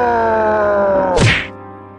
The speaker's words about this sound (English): Yes, sadly, everyone died when a Frankenstein punched them to death with his giant hands.